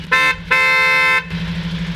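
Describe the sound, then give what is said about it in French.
An electric vehicle horn honks twice, a short beep followed by a longer sustained blast, with a low engine rumble continuing underneath and after, at the end of a driver training day. “Beau de bruit de klaxon pour terminer cette journée de formation.”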